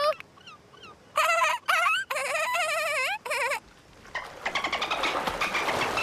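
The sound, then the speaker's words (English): A chicken chasing someone through a water park squawks in several loud, drawn-out wavering cries, then breaks into a quick run of rapid clucks, with no talking. “They all dash through the park where a chicken chases someone.”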